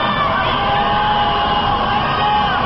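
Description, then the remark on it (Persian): A crowd of protesters at night, on rooftops or terraces, against the results of the 2009 (1388) presidential election, shouting 'Allahu Akbar' and 'Death to the dictator' together in a dense, continuous roar, with overlapping yells and chant-like cries blending into a steady wall of sound for a few seconds. “این شبها شبهای اعتراض است و بخش دیگری از معترضان نیز همراه با شعار الله اکبر فریاد مرگ بر دیکتاتور سر می دهند.”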